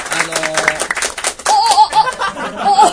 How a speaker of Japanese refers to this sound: わ、すごいすごいすごいすごい、見てください、この、 ね、すごいね。 拍手感と拍手が鳴りやまないよ、ね、 この鳴りやまない感じ。